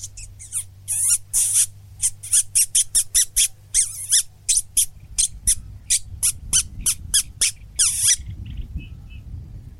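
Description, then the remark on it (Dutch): A reed warbler sings a rapid, chattering song of repeated high, scratchy notes in quick bursts, with a low hum underneath and no talking. “Hey, nu hoorde ik wel best wel goed dat karakarikietkiet.”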